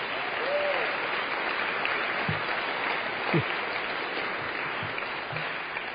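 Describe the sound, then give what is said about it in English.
A room full of people at an AA meeting claps steadily for several seconds for those in their first year of sobriety, a dense, even wash of applause that holds at the same level throughout, with a few faint voices murmuring underneath. “I don't want you to clap for them.”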